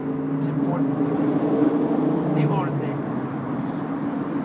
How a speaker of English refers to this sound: This guy driving this old Mustang knows how to go through a tunnel. Rev your engine a little bit, just let him hear it. Let him hear your fucking glass packs or whatever the fuck you got on there.